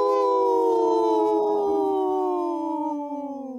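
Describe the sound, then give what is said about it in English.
Several human voices join in a long, sustained imitation of a wolf howl, steady and loud with layered tones that slowly slide downward in pitch over a few seconds. “Wow, that was the best howl we've had in a long time”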